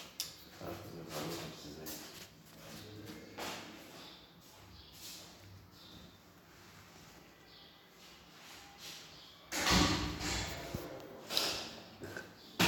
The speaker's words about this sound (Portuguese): Não, pegar assim, vou fechar aquela porta.